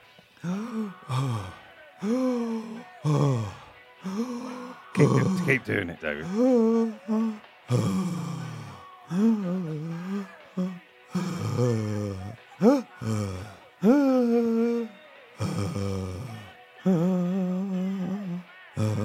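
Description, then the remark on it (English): A person with a cracked rib performs labored, painful breathing: repeated strained gasps, groaning sighs and grunts in an uneven rhythm, with a brief spoken prompt from someone else. “But I found it problematic breathing. And can we listen to what that sounds like?”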